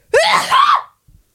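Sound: sneeze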